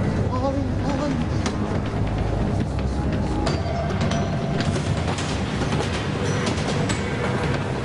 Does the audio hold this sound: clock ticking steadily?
no